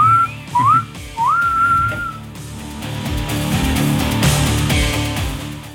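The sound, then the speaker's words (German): Three short whistled phrases, each sliding upward in pitch, sound clearly over a low background rumble; after about two seconds the whistling stops and a dense, noisy wash of sound takes over. “Pfeif jetzt mal ab, sonst hört er gar nicht mehr auf zu quatschen.”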